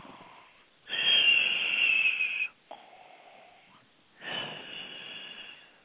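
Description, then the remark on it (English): A voice imitates snoring with two loud, rasping inhale-exhale snores separated by a short breathy pause, clear with no other talk. “Soon he was snoring.”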